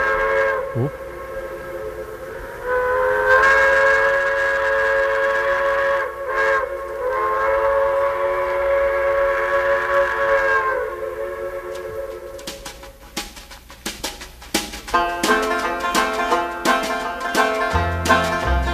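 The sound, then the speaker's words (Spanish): A loud steam train whistle sounds in a long, sustained blast, then fades into the rhythmic chuffing and clatter of a locomotive getting underway, with no voices. “Esto es el miedo a los trenes.”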